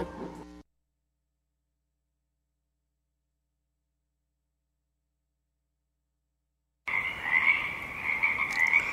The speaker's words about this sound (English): Morning. It's 5 o'clock, just passed. And as the darkness recedes in the marsh, the frog chorus becomes quiet and intermittent, and the first morning birdsong begins to fill this void.